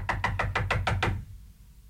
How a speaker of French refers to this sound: Côté extérieur, le palier où se tient la tchèque qui frappe à la porte.